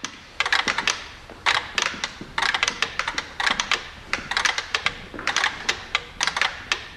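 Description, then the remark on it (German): Many mechanical metronomes, each set differently, tick together in Ligeti's metronome installation at a concert evening, their sharp, dry clicks overlapping into a dense, uneven patter with shifting clusters and brief gaps. No one speaks. “Doch in der Überlagerung werden die jeweils verschieden eingestellten Maschinen lebendig.”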